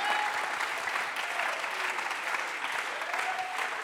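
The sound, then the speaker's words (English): A church audience claps steadily during a bilingual sermon, a dense, sustained wash of many hands applauding together without pause, fairly loud throughout. “Clap your hands alguien today. Aplaude sus manos esta noche.”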